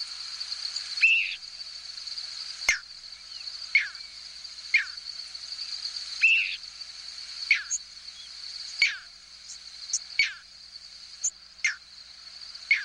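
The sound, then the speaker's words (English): At night over a hayfield in central New York State, steady trilling of crickets fills the background while brief, high squeaks and thin whistled peeps of thousands of migrating birds flying overhead sound intermittently, some faint, no voices present. “This clip is from a six-hour recording of squeaks, whistles, and peeps from thousands of birds passing over a hayfield in central New York State.”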